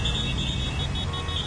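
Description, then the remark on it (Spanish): Traffic jam: a constant low engine rumble with a shrill, sustained horn-like tone blaring over it for the whole moment, loud and unbroken, with no voices. “Así suena un atasco.”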